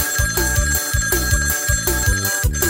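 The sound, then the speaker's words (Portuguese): A telephone ringing with an electronic, melodic ringtone that repeats a short tonal phrase in a steady rhythm, fairly loud, with no voices. “o telefone está tocando.”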